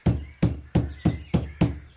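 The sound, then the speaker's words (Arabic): Six firm knocks on the door of a house in a steady, even rhythm, each a hollow thud with a sharp attack, with no voices in between. “هل أقرع الباب؟”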